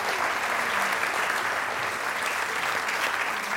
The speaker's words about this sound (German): vielleicht nochmal einen großen Applaus für …, unsere Band.